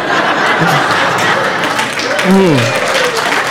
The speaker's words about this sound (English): Are you clapping at that? No, that's weird.